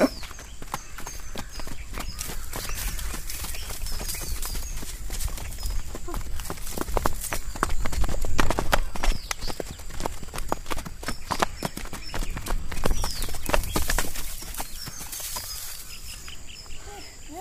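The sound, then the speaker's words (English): Horse hooves clop steadily on hard ground as a horse moves at a walk, trot and canter, the hoofbeats shifting pace and growing busier midway, with faint birdsong in the background. “What was what she did called? Canter and trot and walk.”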